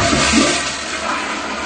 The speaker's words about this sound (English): he says the low-flush toilets simply aren't powerful enough to whisk away waste. People complain they have to flush two or even three times,